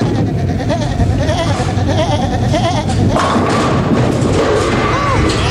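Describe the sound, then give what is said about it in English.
A sheep bleats in wavering cries over a loud, busy clatter of bowling pins crashing and thudding as the sheep is bowled down a lane into 32 pins and knocks them all down, the noisy jumble filling the whole few seconds. “He nails them all. That is one happy sheep.”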